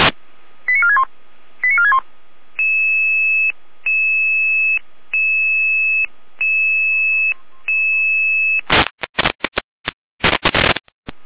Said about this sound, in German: Hier haben wir den Alarm.